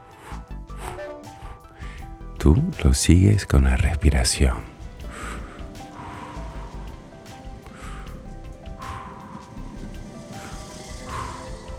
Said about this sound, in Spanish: Comienzas a escuchar cómo el tren se pone en marcha. Emite sonidos que parecen soplidos.